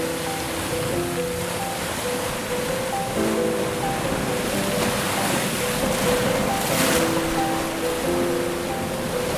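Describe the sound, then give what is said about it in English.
A steady, continuous roar of ocean surf, broad and hissing, with soft sustained musical tones humming underneath. No one speaks. “The waves crash against the shore with relentless force.”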